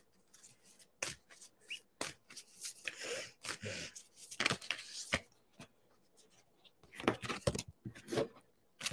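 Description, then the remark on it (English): Papery rustling and quick riffling bursts as a deck of cards is shuffled several times, with sharp snaps and soft handling noises in between and no talking. “I'm not the best at shuffling cards sometimes.”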